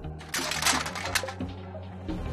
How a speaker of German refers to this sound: Aber dann, wie aus dem Nichts, schepperte es.